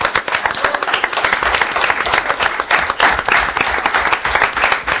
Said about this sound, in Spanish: Bueno, y quiero contarles con quién estoy en el día de hoy, ¿eh? Están, vamos, un aplauso para los perejiles, ¿eh?